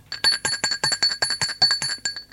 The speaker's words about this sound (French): On a sonné à la porte. Il se lève pour aller ouvrir.